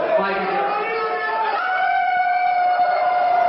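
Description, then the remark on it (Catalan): Players of the Finnish national basketball team howl together like wolves, their voices forming long, sustained, overlapping tones that waver and slide in pitch, loud and continuous throughout. “Aquests són els jugadors de la selecció finlandesa, doncs això fent de llops.”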